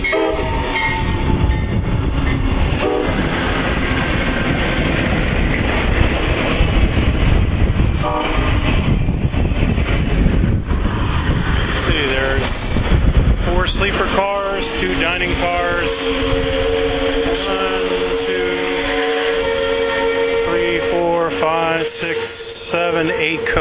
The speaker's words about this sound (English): Pretty good sized train for 92. I suppose people are heading up north for Christmas. First they're loading the baggage up.